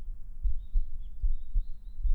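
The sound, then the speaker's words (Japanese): A fast, pounding heartbeat thumps, deep and muffled, with quick repeated beats in a steady rhythm and no voices; a person's heartbeat heard with an ear pressed against her chest. “すごくドキドキしてるでしょ？”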